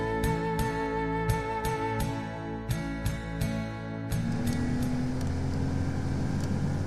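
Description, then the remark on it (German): A speedboat engine drones steadily on one of the canals through the Danube Delta toward the Black Sea in the evening sun, with a regular ticking clatter over it; after a few seconds the motor revs up into a louder, rising roar. No one speaks. “Und deshalb heißt es jetzt Rucksack packen und rauf aufs Schnellboot.”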